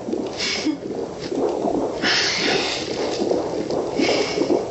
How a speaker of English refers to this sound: And right there's the heartbeat.